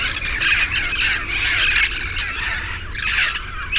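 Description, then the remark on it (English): A raucous flock of yellow-headed and red-crowned parrots squawks continuously in downtown Pasadena, California, harsh overlapping calls filling the air loudly, with no pauses and no talking. “These yellow-headed and red-crowned parrots are causing quite a racket in California's crown of the valley.”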